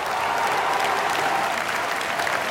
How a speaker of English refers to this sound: There were all the flags that we used to see during the rallies in 2017 when he was elected, the pink and the yellow and the blue, the European Union flag, and people cheering and shouting Macron président, you know, Macron for president.